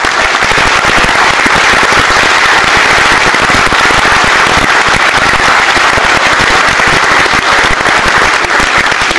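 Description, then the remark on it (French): A crowd applauds a member of French Mozilla loudly and steadily, a dense wash of many hands clapping at once that holds at full strength for around nine seconds with no voices breaking through. “au petit gars de French Mozilla qu'on peut applaudir.”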